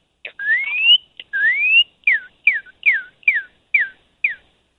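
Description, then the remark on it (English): A person in Chicago whistles an imitation of a cardinal's song: two long, rising slurred notes followed by six quick, evenly spaced downward-sliding whistles, clear and fairly loud with no talking. “Cardinal.”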